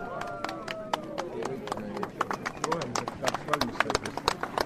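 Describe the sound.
A burst of applause from visitors at a museum exhibition opening, as a traffic light switches from red to green, many sharp irregular claps building in density over a few seconds, with voices talking underneath at the start.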